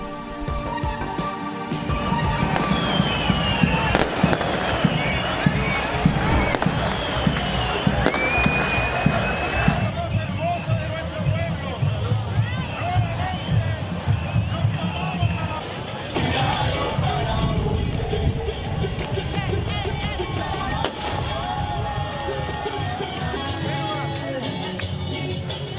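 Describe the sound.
A large crowd celebrates a victory in Plaza Dignidad, Santiago, a dense, steady roar of many voices with rhythmic thumping and bursts of cheering, loud and continuous throughout.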